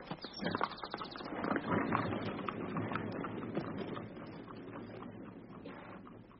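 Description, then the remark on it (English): Horse hooves clip-clop steadily on a hard road as a horse-drawn carriage travels from Brighton toward a stop at Croydon, bound for Jermyn Street, the rhythmic hoofbeats mixed with a continuous rumble of wheels, moderately loud throughout. “Now we'll stop at Croydon to feed and water the horses.”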